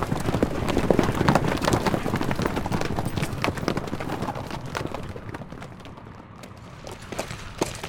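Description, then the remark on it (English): A horse's hooves clip-clop at an unhurried, steady pace as it is ridden slowly toward a huge Crow Indian encampment, a series of sharp knocking thuds over a constant rustling, hissing background that thins out toward the end. “Bodine rode slowly toward the huge Indian encampment.”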